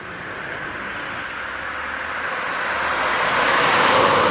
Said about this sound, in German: Kloster Fessra, Thüringen. Spärlicher Verkehr rollt über die Dorfstraße.